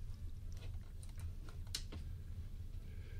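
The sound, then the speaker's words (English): Several light, irregular keystrokes tap on a Microsoft computer keyboard, clustered in the first two seconds and then trailing off, over a steady low hum. “See, it's really just a keyboard.”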